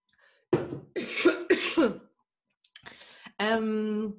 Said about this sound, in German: Jetzt macht sich hier, glaube ich, gerade ein kleiner Hustenanfall breit. Kein Problem.